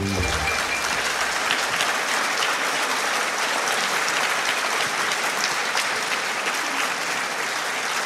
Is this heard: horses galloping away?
no